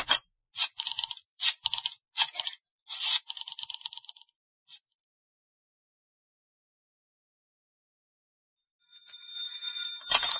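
A rotary telephone dial whirs and clicks through several quick bursts, then falls silent for a few seconds before a bright, buzzing bell ring starts at the end.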